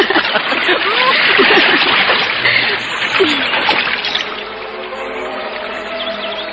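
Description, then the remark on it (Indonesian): Continuous splashing and rushing water in a rocky river as a man and a woman play in the water, laughing, fairly loud throughout, with faint voices mixed into the churn. “nampak bahagia sambil tertawa canda memainkan air sungai bebatuan itu.”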